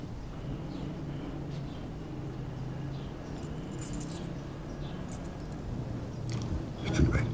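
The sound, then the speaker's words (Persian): Keys jangle in a few short metallic bursts as they are handed over, fairly clear, over a steady low hum and murmur of voices in the background. “کلید رو بده.”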